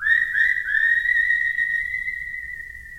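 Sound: whistling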